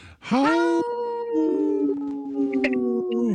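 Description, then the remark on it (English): A person on the Native Roots Radio show imitates a wolf howl and laughs: one long, sustained, tonal wail that starts with a breathy rise, holds a steady mid pitch, then wavers and dips slightly before trailing off. “You howled and laughed. And I don't remember wolves laughing, but that was a good one.”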